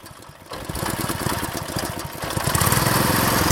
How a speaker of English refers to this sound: crams his thin form into the hull of a boat that putt-putts across a lake. Just a month ago, this lake didn't exist.